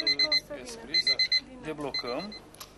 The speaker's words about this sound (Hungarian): Az ima megjelenik a képernyőn, amikor a riasztó beindul. A telefon a harangszó helyett egy figyelmeztető hanggal jelzi, ha imádkozni kell.